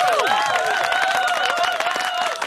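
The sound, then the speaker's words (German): A loud, continuous burst of applause-like sound effect, dense and crackling, threaded with high warbling, buzzy tones that rise and fall, like a swarm of insects clapping, with no talking. “Wenn Insekten klatschen könnten, dann würde es sich jetzt so anhören.”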